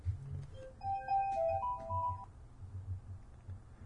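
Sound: phone ringing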